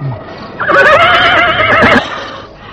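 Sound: horse neighing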